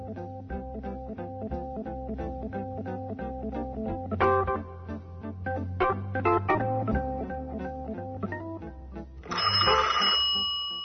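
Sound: telephone ringing jingle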